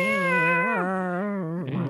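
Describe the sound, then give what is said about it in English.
A person's voice imitates a cat with one long, drawn-out meow, its pitch wavering and bending up and down, sung loudly with no other talking. “That's all just meow.”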